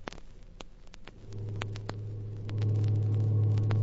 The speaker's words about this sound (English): Hey, you driver, stop your truck. I want to talk to you. Stop the truck? What for? Stop your truck and I'll tell you. I'll stop the truck when I get to Garfield.